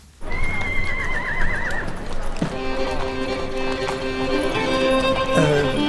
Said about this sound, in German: Da drüben auf der Koppel. Sind das die Pferde? Das sind die Pferde, ganz genau. Na, das sind ja... Ja, nicht? Ja, sind das Pferde? Das sind doch Pferde. Pferde sind das. Beeindruckende Tiere, in der Tat.